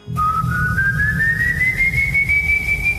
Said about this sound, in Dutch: Deze keer kwam het geluid van achter een struik die naast zijn voordeur stond. Een struik die groot genoeg was om een volwassen man achter te verbergen. Opnieuw hetzelfde fluit, van hoog naar laag.